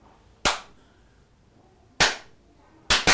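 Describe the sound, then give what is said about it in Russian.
A child claps four sharp hand claps to imitate falling raindrops: a single clap, a long pause, another single clap, then two quick claps in rapid succession, with no talking. “Ну, попробуй вспомнить, как же капал дождь.”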